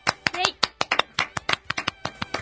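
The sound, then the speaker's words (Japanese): A small group claps their hands in brief applause marking a live talk programme's 376th broadcast: about fifteen sharp, fairly loud claps in a quick, uneven rhythm, with a faint voice briefly underneath near the start. “知ってる就活働くを考えるライブトーク番組、今日で376回目を迎えました。拍手。”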